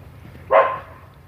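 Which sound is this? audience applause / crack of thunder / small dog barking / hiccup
small dog barking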